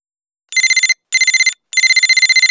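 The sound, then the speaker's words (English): A telephone rings in three short bursts before a phone call, each a rapid electronic trill, separated by brief pauses. The ringing is loud with nothing else around it. “Listen to the first part of Claire and Tom's phone call and answer the questions in Exercise 8.”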